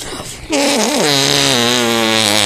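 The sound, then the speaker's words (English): A loud arm fart made with a hand cupped in the armpit as an entry in an arm fart contest: one long, buzzy blast lasting about two seconds, its pitch wobbling at first before holding steady. “Both those are excellent arm farts.”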